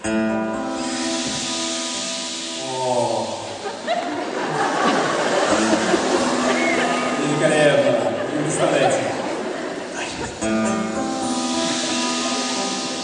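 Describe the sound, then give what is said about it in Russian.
An audience hisses together in a broad, steady wash imitating the sound of the sea, swelling in the middle, while a man speaks briefly over sustained guitar chords at the start and end. “С вашим морем, с вашим шипением.”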